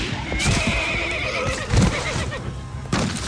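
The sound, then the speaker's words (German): A horse, shot through the neck, whinnies loudly and shrilly as it falls with its rider, its wavering neigh stretching across the whole moment, with a few thuddy hoof sounds and scuffles underneath and no voices. “Der Schuss durchschlug den Hals des Pferdes. Das Tier stürzte und begrub seinen Reiter fast unter sich.”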